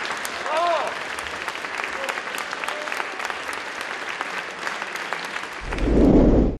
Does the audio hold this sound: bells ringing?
no